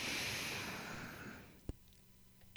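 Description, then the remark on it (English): A long, deep breath drawn in during a breathing exercise, a steady airy rush lasting over a second before fading into near silence, followed by a small click. “let's close today, as we've closed oh so many of these No BS Bishop broadcasts, by breathing”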